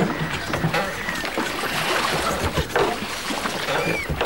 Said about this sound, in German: Wir rudern langsam an die Felsengruppe heran.